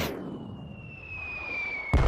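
bombs exploding

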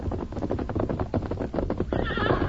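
horse neighing

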